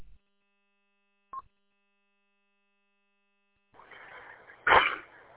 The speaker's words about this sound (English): Excuse me. I had a cough hit me right as I keyed the microphone.